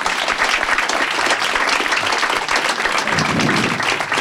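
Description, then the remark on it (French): A crowd applauds steadily for a few seconds, a dense, even wash of many hands clapping at once, loud, with no one speaking over it, welcoming Anne and Georges Nivat, daughter and father, at a public meeting. “Merci de les accueillir, de les applaudir.”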